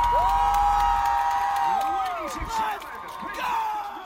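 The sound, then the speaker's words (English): A University of Delaware Blue Hens football stadium crowd cheering loudly, a dense continuous roar of many voices with high whoops and shouts rising and falling over about four seconds. “For the Blue Hen community and many other colleges, that sound has been missing for quite some time now.”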